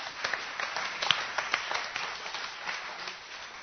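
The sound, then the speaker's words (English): A crowd applauds steadily, many hands clapping in a dense, continuous patter with scattered sharper claps, no voices standing out over the sustained ovation, given in the morning for the work of Teen Challenge ministries in restoring families and freeing addicts. “Give one more round of applause for that this morning.”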